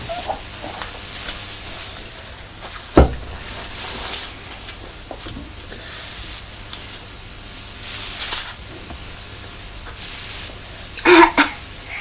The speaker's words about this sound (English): You're still pretending to cough, aren't you?